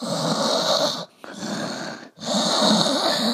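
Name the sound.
person imitating snoring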